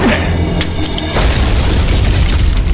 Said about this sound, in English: Unfortunately, the grenade explosion acted like a call to arms for all the gun-toting muties in the level.